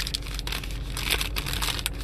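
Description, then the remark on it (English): A printed paper of a study is handled as someone gets it out to read from, rustling and crinkling in quick, irregular bursts of bright, crackly noise, with a steady low hum underneath and no voices. “Let me get the paper. Hold on. I actually have the paper of this.”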